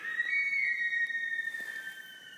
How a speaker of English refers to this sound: And if you're here in the months of October and November, you may hear a strange sound emerging from the marsh, the whistling call of the sika deer.